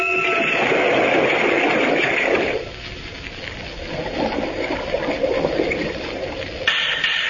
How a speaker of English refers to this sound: Going down now. Down into the sea like a fish. Down alongside the Y boat. To hear what's going on inside that shell of steel. Down. Down. Down.